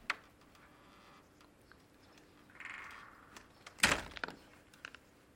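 A metal door on an iron pipe creaks open with a short squeal, then a loud clanking bang rings out, followed by a few faint clicks and rattles, otherwise quiet.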